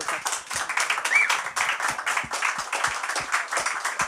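A small group claps steadily for a few seconds, dense overlapping hand claps forming brief, close-sounding applause with no talking over it.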